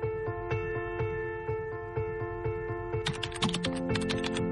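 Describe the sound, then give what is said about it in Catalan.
Quick keyboard typing of search terms into a web search engine in an office, steady at first and then a brisk flurry of clicks near the end, over a soft sustained musical tone. “Aquell matí al despatx, en un instant, no sé si de debilitat o de coratge, vaig teclejar quatre conceptes claus al buscador més conegut del món.”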